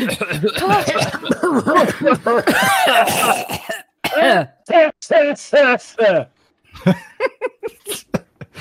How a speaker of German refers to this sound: Er bricht unter der Kraft des Zwerges und dann mit einem schallenden Knirschen zerbricht er komplett und wird zerbröselt und löst sich in schwarzen Staub auf, der aufgewirbelt wird in den Raum wie ein Nebel, sodass ihr alle ein wenig husten müsst.